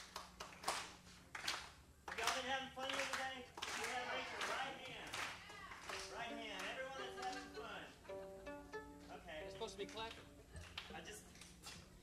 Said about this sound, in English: Can I get you all to clap along for just a second?